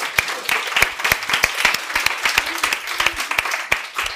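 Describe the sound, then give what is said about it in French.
A church audience applauding together as a family after an amen, a dense, steady wash of many hands clapping with sharper individual claps popping out irregularly throughout. “Tous ensemble, on applaudit.”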